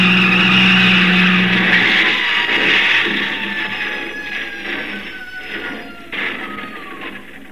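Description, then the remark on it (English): A car driven by a woman swerves off the road into the canyon below, its engine whining and tires screeching in loud, strained tones that slide downward and fade over several seconds, with no one talking. “And the picture of her in the car, swerving off into space into the canyon below.”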